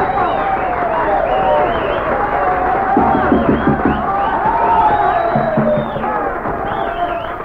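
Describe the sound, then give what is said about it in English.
A crowd applauds loudly and steadily throughout, with many voices cheering and whooping over the dense clapping, applauding to vote that a record will be a hit. “Now, if you think this record will be a hit, please applaud right now.”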